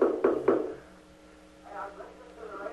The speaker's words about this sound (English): He won't let us in. Knock down the door. Keep knocking.